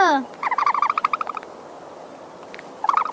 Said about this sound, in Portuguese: Aliás, quer ouvir o som que o avestruz faz? Quero!